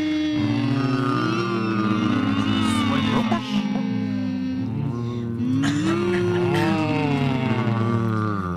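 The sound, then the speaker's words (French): A voice hums with the mouth closed on the consonant M as a singing warm-up, imitating a cow's moo in long, low, continuous tones that slide up and down in pitch, loud. “Expulsez la vache qui est en vous.”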